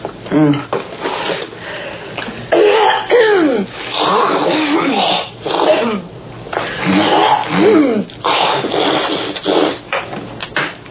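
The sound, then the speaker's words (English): A string of loud throat-clearing and phlegmy coughing sounds, rough and gurgling, coming in repeated bursts with voiced, groaning tones between them. “Well, maybe we could, like, cough up a phlegm globber day or something.”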